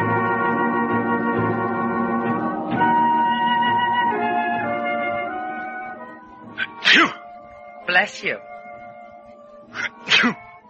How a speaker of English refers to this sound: Bless you. Stop saying that. I've got a cold swimming around in that cold ocean.